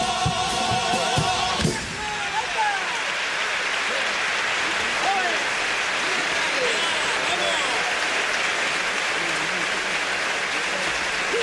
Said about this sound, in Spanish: Ahí lo tienes, ¿eh? Y el patio de butacas que se levanta en gran parte del público aplaudiendo este paso doble rematado con esa contundencia y la fuerza de este grupo.